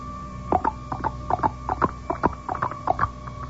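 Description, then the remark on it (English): Steady rhythmic tapping in paired beats, imitating a horse's clip-clopping hooves, about a dozen hollow knocks repeating evenly with no one speaking. “How about like this? Like a horse?”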